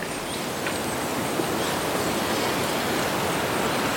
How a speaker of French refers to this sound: Le bruit des feuilles qui bougent à cause du vent.